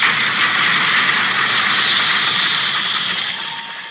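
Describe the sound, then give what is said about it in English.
A crowd being conducted stomps on bleachers to imitate thunder: a loud, dense, continuous rumble mixed with broad hiss, steady throughout and easing off slightly at the end, with no voices. “Here's the thunder.”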